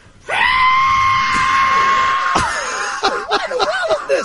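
A loud, sustained high-pitched screech, almost whistle-like, holds steady for about two seconds, then breaks into shorter wavering, warbling bursts. No talking.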